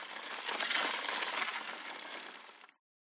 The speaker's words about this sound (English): The scoop from a toy digger, and the whirring sound is the wheel of a toy truck.